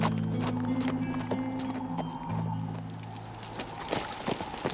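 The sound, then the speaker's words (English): Horse hooves clip-clop as a rider on horseback heads toward the town of Liberty, an uneven rhythm of sharp, knocking steps over a low, steady rumbling hum, fairly loud, with no voices. “A dark and evil energy had consumed my spirit as I swung into the saddle and reined my horse toward liberty.”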